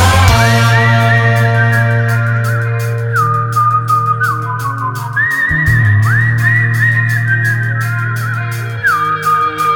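A high, piercing piccolo melody whistles and slides between notes above a steady low drone, with a quick ticking rhythm running underneath throughout.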